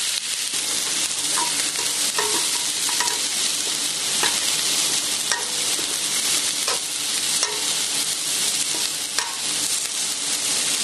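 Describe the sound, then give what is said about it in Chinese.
Peeled, deveined shrimp seasoned with a little pepper sizzle steadily in a hot pan over high heat, fried on both sides for about three minutes: a dense continuous crackle with occasional sharper pops and faint clinks, fairly loud, with no talking. “咁跟住咧，依家咧就大火咧煎一煎佢兩邊，大約咧三分鐘到就應該 OK 噶啦。”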